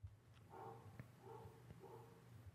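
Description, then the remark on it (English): A dog barks three times in a steady rhythm, each bark drawn out and slightly tonal, with a low hum and a few soft clicks underneath. The barks are fairly quiet. “This is my dog.”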